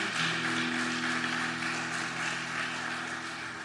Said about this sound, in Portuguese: Só por isso nós já devemos aplaudir o Senhor, amém ou não? Só por isso.